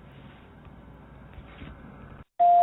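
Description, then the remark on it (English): After a low murmur of background noise and a brief moment of silence, a loud, steady voicemail beep sounds, a single sustained electronic tone that continues to the end. “So record your message after the beep”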